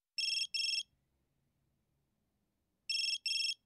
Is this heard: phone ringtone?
yes